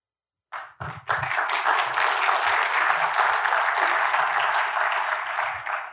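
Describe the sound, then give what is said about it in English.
An audience breaks into steady applause welcoming a guest speaker, a dense wash of many hands clapping that starts abruptly and holds at a fairly even loudness throughout, with a few low thumps mixed in. “Thanks for the kind introduction and the necessary applause.”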